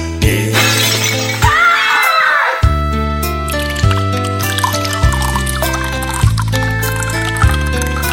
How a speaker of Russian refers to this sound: бутылку разбивал о пень, бутылку разбивал.